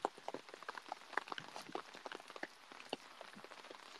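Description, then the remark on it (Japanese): Steady heavy rainfall with dense, crackling drops pattering on a hard surface, continuous, with no voices present. “いやマジでさ、これ止んでるかな、あと7時間後くらいにさ、この雨止んでる？”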